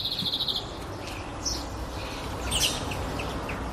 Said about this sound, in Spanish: Calles en las que cuando pasees puedas oír el sonido de los pájaros.